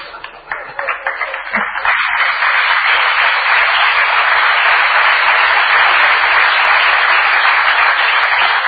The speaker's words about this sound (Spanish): Y vamos a aprovechar este aplauso para brindarle otro a …, un gran cantor argentino.